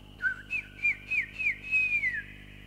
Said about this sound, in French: Voilà, les petits chants d'oiseaux.